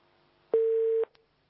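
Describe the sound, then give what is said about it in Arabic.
A single steady telephone tone after a phone call is cut off, like a busy or disconnect beep, sounds clearly for about half a second and stops abruptly, followed by a faint click and silence. “انقطع سأجيبك إن شاء الله.”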